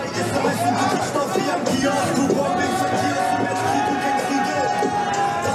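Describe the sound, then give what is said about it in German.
A large crowd at the red carpet for the film Sonne und Beton cheers and chatters, a dense, loud wall of overlapping voices and shouts that stays steady throughout. “Ja, so ungefähr klang es also vor einer Woche am roten Teppich.”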